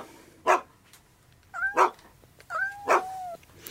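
A dog barks three times at a steady pace, fairly loud, with a thin whining tone stretching between the later barks. No one speaks.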